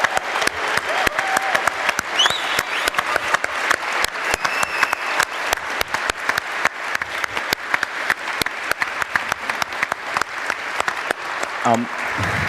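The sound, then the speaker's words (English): An audience applauds the cardio team steadily for over twelve seconds, a dense, even wash of many hands clapping at full strength without letting up, with a few faint voices and whoops mixed in. “Big applause for the cardio team, because it's awesome.”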